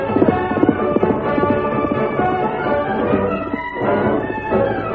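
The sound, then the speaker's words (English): Rapid, rhythmic hoofbeats of a great white horse, Silver, galloping in a chase pound steadily, blended with a dense, full backdrop of sound that stays loud throughout. “The outlaw's change of mounts took time, but the great white horse seemed to close the gap between them in an instant.”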